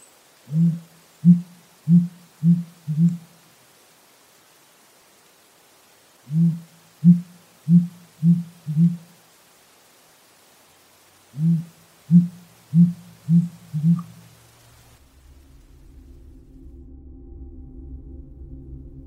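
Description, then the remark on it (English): A sooty grouse gives deep, low hoots in three evenly paced series of five, with pauses between them, before a low droning rumble takes over at the end. “Seattle is right in the middle of sooty grouse territory. Here is an example.”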